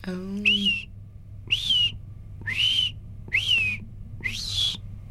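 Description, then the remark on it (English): A person whistles an imitation of red-eyed vireo song: five short, high, rising-and-falling phrases separated by brief even pauses, fairly clear over a low background hum. “And then the red-eyed vireos.”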